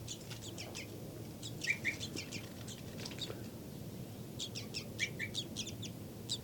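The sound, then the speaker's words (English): A bird, identified as 5-9 and kept in a cell with a baby bird, gives a series of short, high, chirpy flight calls in rapid bursts, pausing briefly between clusters, over a steady low background hum. “Flight call series by 5-9.”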